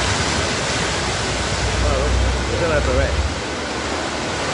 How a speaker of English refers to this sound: Some dramatic video out of Spain tonight where torrential rains have caused extensive flooding.